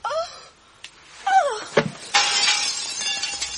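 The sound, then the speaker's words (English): Green glass shatters with a sharp crash, followed by a bright, sustained spray of tinkling fragments scattering and settling over a table, food and the floor. A few creaky, rising squeals come just before the break. “There were little crystals of green glass everywhere, all over the table, all over the food, all over the floor, with the candlelight making them sparkle, looking just for a moment like the late evening sunlight sparkling on the sea.”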